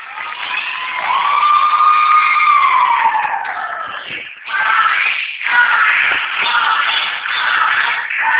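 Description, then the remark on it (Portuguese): A group of women in an office shout and cheer loudly, high voices overlapping in a sustained, excited outburst that dips briefly twice before surging back up, after a consultant closed a high-value contract. “Ai, desculpa, é porque uma consultora pagou um contrato alto e elas gritaram aqui.”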